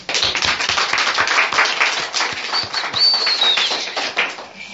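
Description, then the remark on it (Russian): A group of people applauding at a group meeting, a dense, steady patter of many hands clapping at once, loud and continuous, with a faint high whistle-like tone rising briefly partway through. “Я на Фениксе иногда, когда у нас хлопает, и мы забавно смеемся, как-то была одна женщина на группе, она стала: «Блядь, вы что свистите, что это такое?»”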